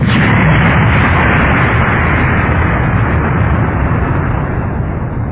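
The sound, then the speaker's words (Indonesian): A heavy iron gate of bars slams shut, closing off the way out, with a loud, booming crash that rolls into a deep, rumbling roar, lasting several seconds and fading only slightly. No voices are heard. “Pintu besi. Aduh, sial.”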